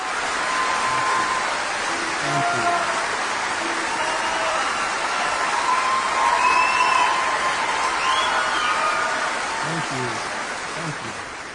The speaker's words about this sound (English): Clap, you monkeys, clap!